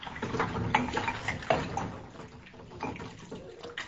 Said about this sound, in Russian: Старшая дочка моет посуду.